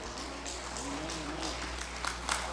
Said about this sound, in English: Only the winners clapped.